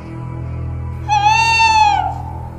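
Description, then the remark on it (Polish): A male tawny owl, answering calls and having moved away yet still fairly loud: one drawn-out, hooting tone about a second long, holding a steady pitch before sliding down slightly at the end, clear above a low continuous background hum. “Oddalił się, ale nadal dosyć donośnie słyszymy ten odgłos.”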